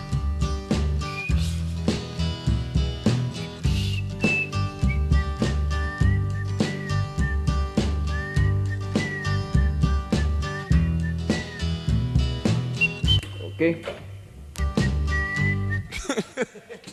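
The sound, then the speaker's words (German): A soul song plays with steady drums, bass and horns, and a person whistles a wavering melody line over the band, the whistle clear and high, drifting in and out before the track fades. “War vielleicht nicht der Beste im Pfeifen, ansonsten aber unübertrefflich.”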